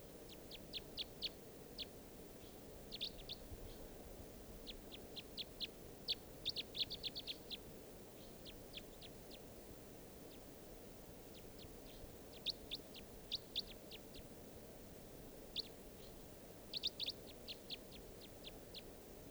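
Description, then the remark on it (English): A small mixed flock of five birds of call types 3 and 4 calls repeatedly, with bursts of sharp, high chirps and clicks scattered in clusters over a steady low background rumble, no voices present. “So there's type 3s and type 4s. Mixed in the flock.”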